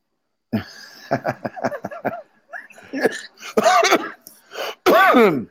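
A run of short, throaty bursts builds into a few loud, explosive sneezes, with no talking around them.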